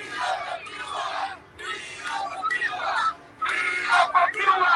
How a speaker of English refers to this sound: And as protests continue in Cuba, Cubans here in the U.S. are taking to Washington, D.C. to do the same. Yesterday, hundreds from all over this country gathered in front of the White House, shouting their demands to President Biden to do more.